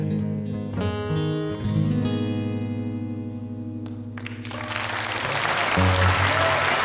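A live song ends on a sustained, ringing guitar chord for several seconds, then an audience breaks into steady, loud applause that continues to the end.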